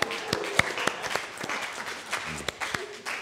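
A short round of audience applause in Rheinach for a volunteer: many overlapping, irregular claps at a steady moderate level for a few seconds, with a faint voice briefly audible beneath it.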